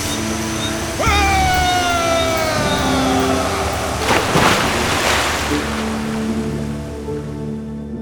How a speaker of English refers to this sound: It's a waterfall.